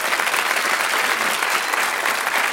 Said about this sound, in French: Oui, on peut l'applaudir, bien sûr.